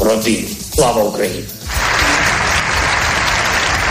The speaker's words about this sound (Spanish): La imagen del día es la comparecencia del presidente ucraniano Volodymyr Zelensky, telemáticamente, claro, en una sesión conjunta del Congreso y el Senado, que le ha recibido y despedido con una cerrada ovación.